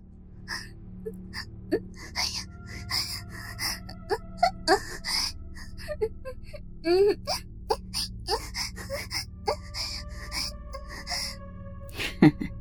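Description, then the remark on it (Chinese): A breathy female voice gasps and pants repeatedly in passionate, sensual panting as she is kissed by a man, mixed with short whimpering moans, in an uneven rhythm over about twelve seconds, with no words spoken. “在洪先生又吻又戳下，仙儿不禁发出了香艳热情的喘息声。”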